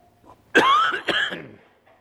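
Two harsh coughs in quick succession, loud and raspy, from a cough that has lasted about a month, followed by a brief quiet breath; no talking.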